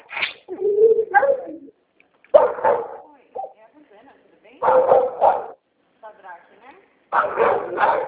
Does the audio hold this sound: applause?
no